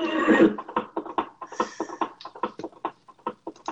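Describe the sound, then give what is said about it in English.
A horse neighs loudly, opening with a harsh burst that breaks into a long, rapid, fluttering whinny, pulsing steadily for several seconds with no one talking. “That's a horse, of course.”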